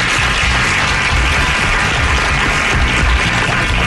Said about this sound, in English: Crowd goes wild.